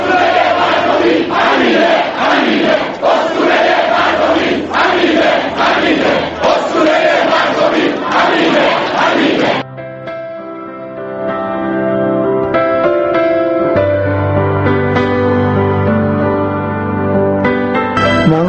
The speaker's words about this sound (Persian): مردمی که چهارشنبه در مراسم تشییع او در ورزشگاه آزادی گرد آمدند و در حضور بسیاری از مسئولان و معممین در این مراسم فریاد زدند.